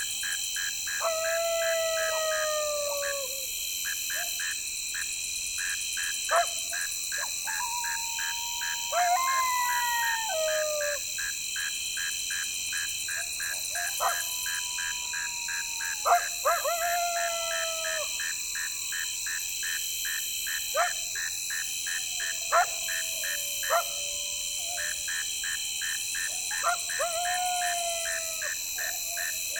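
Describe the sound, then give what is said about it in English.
Coyotes howl and yip from the surrounding prairie in repeated wavering bursts, several voices overlapping, over a constant high chorus of chirping insects. “Coyotes.”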